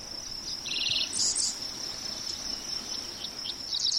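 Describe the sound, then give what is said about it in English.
Dickcissels and sparrows sing in short chirping bursts and a quick trill over a steady high insect drone on a patch of prairie in southwest Iowa, with no talking. “Dick thistles and sparrows sing, and bees land on bright flowers on this patch of prairie.”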